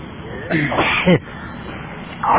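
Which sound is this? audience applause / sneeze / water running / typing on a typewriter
sneeze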